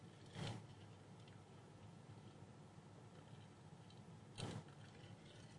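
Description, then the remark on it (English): Two brief crinkly crackles from a five-year-old plastic water bottle with a llama on it, a few seconds apart, fairly quiet against a low steady background hiss with no talking. “There's that noisy water bottle.”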